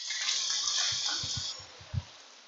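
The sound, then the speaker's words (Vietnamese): A short burst of applause given for a man, a dense hissing wash of clapping that lasts about a second and a half and then cuts off, leaving a few soft low thumps. “Cho ảnh chàng pháo tay đi.”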